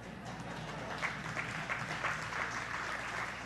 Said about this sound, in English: That was a weak applause. I think we do better than that.